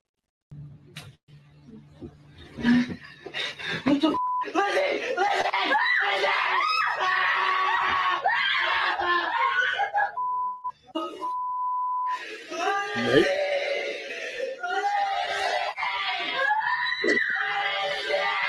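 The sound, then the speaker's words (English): A woman's drawn-out scream from a video clip, slowed down so it sounds low and stretched, wavering loudly over a noisy background with some beeping tones mixed in. “Something about her screaming in slow motion is kind of funny.”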